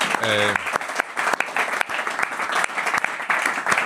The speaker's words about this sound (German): Ich denke an der Stelle nochmal Applaus an die anderen, ne, und so weiter.